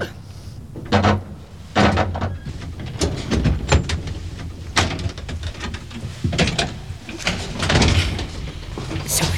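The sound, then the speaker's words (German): A door to someone's home being opened, with a series of sharp clunks and rattles spread over several seconds, as if a handle and latch are worked and the door slides or swings. “Kommt, hinter dieser Tür wohne ich.”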